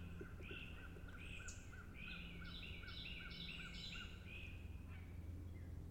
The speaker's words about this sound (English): Well, there's a Carolina wren belting his heart out right now. The bird noise is complemented by a helicopter flying overhead.